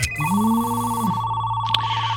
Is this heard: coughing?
no